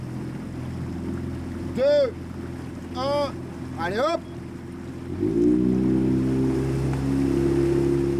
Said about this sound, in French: Et bien, je suis plus à l'aise dans le bateau à moteur.